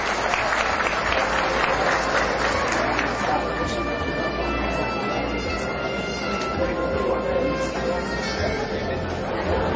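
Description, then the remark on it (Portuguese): Sustained applause from an audience at a ceremony awarding the title of citizen of Formosa and the Itiquira merit commendation, steady and dense for the full length, with crowd chatter and murmuring voices mixed in beneath the clapping. “Uma salva de palmas.”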